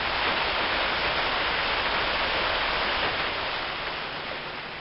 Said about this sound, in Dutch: De wind draaide naar het zuidwesten en voerde zware wolkgevaarten aan, waaruit al spoedig regen begon te vallen.